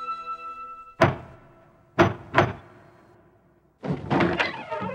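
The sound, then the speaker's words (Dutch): Three heavy knocks from a lion-head door knocker, held in both hands, ring out against a wooden door, the last two in quick succession, each with a resonant decay, followed by a clattering burst as the door stirs. “Ik nam de deurklopper die de vorm van een leeuwenhoofd had in beide handen.”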